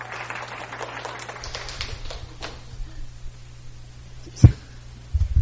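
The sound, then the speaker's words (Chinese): Scattered audience clapping to welcome a speaker fades out over the first couple of seconds, leaving a low steady hum and a single sharp knock near the end. No one speaks. “我们拍手哈。”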